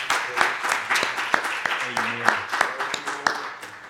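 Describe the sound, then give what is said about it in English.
A church audience claps their hands in praise to the Lord, a dense burst of applause with sharp individual claps standing out, accompanied by scattered voices murmuring underneath. “Well, let's give the Lord a hand clap of praise again.”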